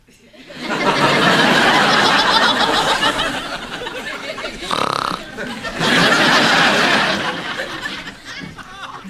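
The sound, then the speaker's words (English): A tape recording of a person snoring: two long, loud, raspy snoring rumbles, each lasting a couple of seconds, separated by a brief higher-pitched tonal breath before the second snore fades out. “Okay, so like I said, this is a tape of you snoring.”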